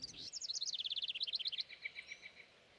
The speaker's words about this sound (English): I don't know about you, Sprouts, but when I wake up in the morning, all I hear is birds. They start singing at the crack of dawn as soon as the sun comes up. I'm not sure what all they're saying. But they're saying something.